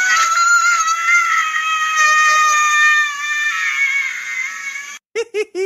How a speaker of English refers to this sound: What I love is it's kind of just the same scream he does when he puts the aftershave on his face. Can we hear it?